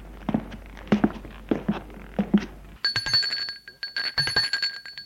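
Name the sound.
doorbell ringing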